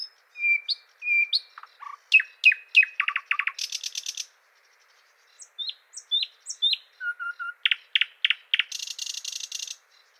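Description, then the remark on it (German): A thrush nightingale sings alone, mixing sharp clicks, fast chattering rattles, rising whistles and harsh buzzy bursts in distinct phrases, with a brief pause midway through. “Hören wir uns nochmal den Sprosser an.”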